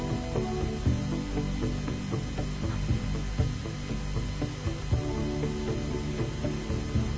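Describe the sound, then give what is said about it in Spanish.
A piece of instrumental music, the title track that closes the album, plays at steady volume, with sustained low droning tones under a dense, rhythmic clicking and ticking percussion texture; no voices are heard. “Precisamente esto que estamos escuchando es el tema que titula y cierra el disco.”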